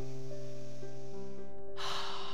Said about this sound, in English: Take a deep breath in.